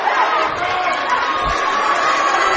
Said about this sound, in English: 35.9 seconds. Student section on their feet screaming. Gotta love it, folks.